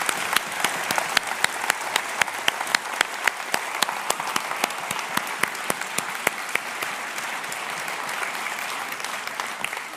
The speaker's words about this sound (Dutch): Zullen we onze God, die de overwinning voor eens en altijd behaald heeft, een geweldig lofoffer geven met een applaus.